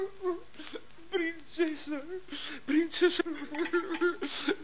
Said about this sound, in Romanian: Oare ce se aude? Cine plânge? Ah, mi se pare că este bucătarul împăratului. Ce-o fi plăsit, bietul bucătar?